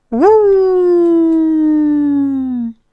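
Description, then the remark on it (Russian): One long, mournful, dog-like howl. It swoops up sharply, then holds steady and loud for over two seconds before cutting off, most likely a human voice imitating a despairing dog. “Первый сыщик, подняв морду, издал собачий вопль отчаяния.”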